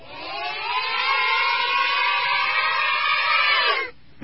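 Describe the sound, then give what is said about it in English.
Children's cheering played backwards: a dense, warbling wash of high young voices that swells steadily for nearly four seconds, then cuts off abruptly into near silence. “We need to undo the cheer. This is what it sounds like.”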